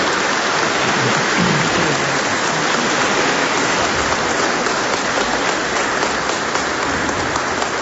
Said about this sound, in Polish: Dziękuję bardzo. Wielkie brawa.